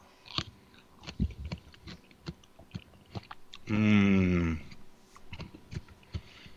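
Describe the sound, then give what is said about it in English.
Crunchy biting and chewing of a stuffed jalapeno that turns out not to be a hot one, with sharp irregular crunches throughout and a brief hummed 'mmm' of approval partway through. “Let me test drive one of these for us.”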